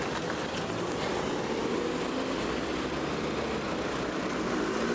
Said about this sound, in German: Hier wird mir das gerade empfindlich zu voll. Und die Autos wollen hier links abbiegen.